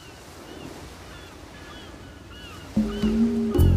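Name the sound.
sea water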